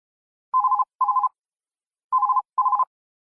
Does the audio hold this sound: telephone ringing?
yes